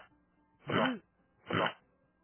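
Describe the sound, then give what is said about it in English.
A man clears his throat twice in quick succession, two short rough rasps with a brief pause between them and no talking. “I think he's clearing his throat.”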